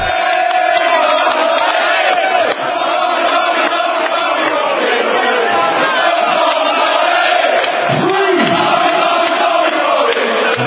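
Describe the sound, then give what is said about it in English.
A large crowd at the Free Tommy Robinson March roars and cheers continuously, a dense wall of shouting voices with chant-like swells and a few louder individual yells rising above the din for the whole stretch. “Try ignoring this crowd.”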